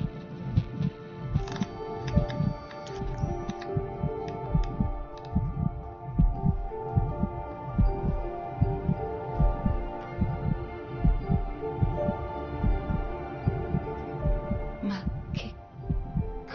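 An amplified heartbeat from inside an unfertilized egg thumps steadily in low, muffled pulses throughout, over a faint background hum, with occasional brief higher clicks and some murmuring sound in the mix.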